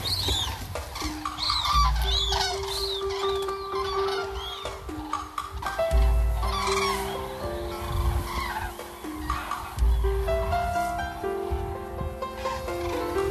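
A flock of about fifty birds passes overhead, trumpeting and calling nonstop. Dense, overlapping cries and whistles layer over each other, loud and steady for the whole stretch, with no talking.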